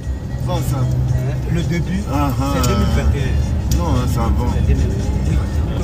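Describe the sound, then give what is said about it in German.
Steady low road rumble from inside a moving car driving from Abidjan to Ganioa in southwestern Ivory Coast, on the way to a cocoa plantation, constant throughout, with people talking over the engine and tyre noise. “Ich bin da im Auto hingefahren, und zwar zusammen mit … und ….”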